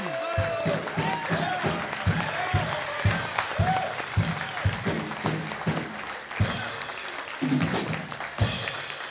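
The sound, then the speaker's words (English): A crowd stands and applauds steadily for about nine seconds, a dense wash of overlapping claps with scattered whoops and cheering voices rising through it, staying loud throughout. “So, guys, if you will, stand up. Give him a huge round of applause.”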